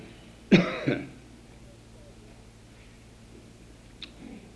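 A close, harsh cough with a throaty double burst, followed by quiet room tone and a brief faint throat-clearing sound near the end; no one speaks.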